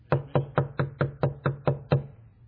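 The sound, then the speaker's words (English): A steady run of eight firm knocks on a wooden door, evenly spaced, with a hollow resonance and no voices over them. “Heaven forbid He's ever standing outside that door.”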